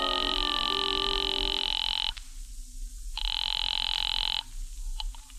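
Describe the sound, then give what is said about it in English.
A telephone ringing on the line, heard through the receiver of a phone booth during a call to the Cafe Tambourine: two long, steady electronic rings separated by a short pause, slightly thin and filtered with faint line hiss underneath. “I waited around the lobby for a while, then stepped into a phone booth and called the tambourine.”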